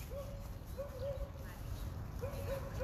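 A dog in New York gives short, high-pitched barks in a few quick bursts, fairly faint, over a steady low outdoor rumble.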